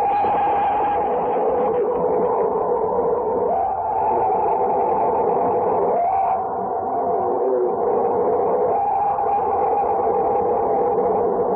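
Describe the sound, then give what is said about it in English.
A tape recording of a purported Bigfoot scream: a loud, sustained, wavering howl with strong harmonics, muffled and tinny, rolling on without a break for about eleven seconds with no voices. “That first scream is said to be an authentic Bigfoot sound, Robert.”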